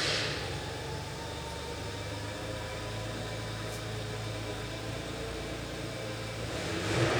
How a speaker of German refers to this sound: ich glaube, Harry fährt schon mal den Wagen vor.